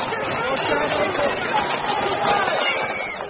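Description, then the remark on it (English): A dense, steady roar of crowd noise, many voices shouting and clamoring at once with no gaps, a continuous loud hubbub of agitated demonstrators clashing with authorities on the streets of London over plans to raise student university fees, as mounted police try to break up the crowd. “Mounted police then try to break up the crowd in chaotic scenes.”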